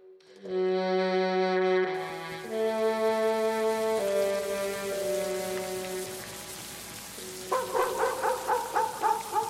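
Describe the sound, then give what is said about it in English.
Steady storm rain patters under sustained, droning musical tones, then near the end a dog named Daisy, out in the storm, bursts into a quick series of loud, rhythmic barks. “Daisy is out there, Grandfather, in the storm. Daisy isn't a real dog.”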